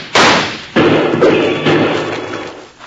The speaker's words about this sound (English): Well, if that's the case, Bill, let's shoot at those lizards some more and shake up Rocky's hearing again.